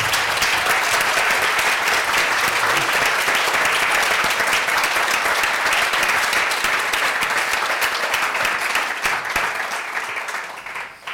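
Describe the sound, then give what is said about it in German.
Sustained applause from a large audience in a hall at the Foodblog Award, given for the brand partners, loud and dense with many hands clapping at once, holding steady for several seconds before beginning to taper off at the end. “Dafür nochmal ein ganz, ganz dicker Applaus an alle unsere Partner, die Sie hier sehen.”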